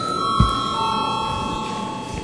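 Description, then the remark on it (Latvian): A parliament voting bell rings without a break, a bright, steady metallic tone held at an even loudness for a couple of seconds, with one dull thump early on. It is called for before deputies vote on a bill amending the law on insurance companies and their supervision in its second, final reading. “Lūdzu zvanu.”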